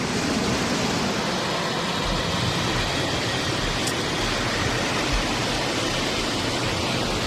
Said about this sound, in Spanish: Pues este es el sonido del arroyo Jaboneros.